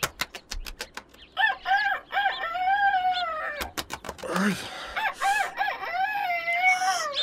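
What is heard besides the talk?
rooster crowing at dawn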